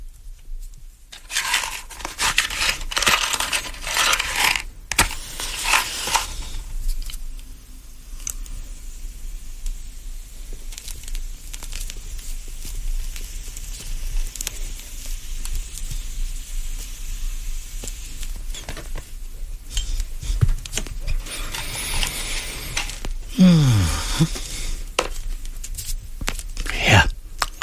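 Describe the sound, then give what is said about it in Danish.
A cigar being lit: crinkling and rustling handling noises, a few sharp clicks, then breathy puffing and a soft flame hiss, with no one talking. “Så er der ild i cigaren, og jeg kan sige hjertelig velkommen til Faraos Cigar.”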